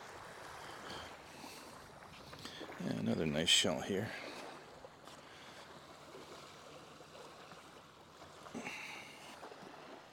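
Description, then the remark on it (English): Gentle ocean water washes steadily onto a beach in the background, with a fuller splash of a wave around the third second, while a man talks casually; the sea is calm and flat. “But other than the waves hitting the shore, oh, looks pretty decent out there, nice and flat.”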